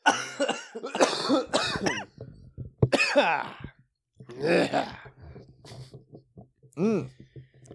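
A harsh, phlegmy coughing fit: several rough, rattling coughs in uneven bursts, with brief gaps and throat-clearing between them, ending in a final strained cough.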